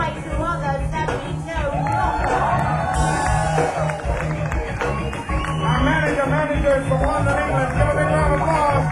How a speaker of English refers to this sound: From London, England, give a big round of applause.